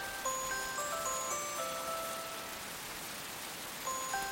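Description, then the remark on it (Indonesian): Heavy rain pours down ever harder in a steady, dense hiss that fills the whole clip, with a few faint, thin ringing tones floating above it. No one speaks. “Di antara suara hujan yang deras itu terdengar suara Harin yang jernih”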